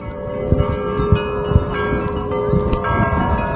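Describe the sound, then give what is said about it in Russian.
Church bells ring continuously during an Easter religious procession in Yekaterinburg, Russia, overlapping strikes blending into a sustained, shimmering peal with steady ringing tones and a low background rumble, moderately loud with no voices. “На протяжении всего молитвенного шествия беспрерывно звучал колокольный звон.”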